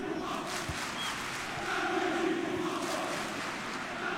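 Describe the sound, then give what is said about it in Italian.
A large crowd of bianconeri (black-and-white team) football supporters chants in unison, a dense, sustained roar of many voices with a steady rhythmic swell, no single voice standing out. “Stavo cercando di capire il coro dei tifosi bianconeri.”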